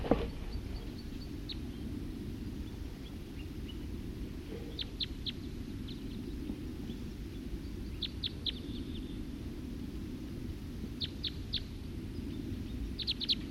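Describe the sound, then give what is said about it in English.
Wild birds give short, high chirps in quick bursts of three or four notes, repeating every few seconds over a steady low rumble of background noise. “Start recording a wild bird.”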